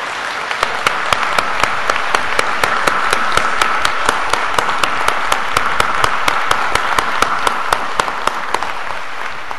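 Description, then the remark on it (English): Loud, sustained applause from standing graduates of the class of 2014 applauding those who supported them, a dense steady wash of many hands clapping at once with sharp individual claps popping out, continuing without pause for nearly ten seconds. “Look around you and give a big round of applause to all of those who have supported you over the years.”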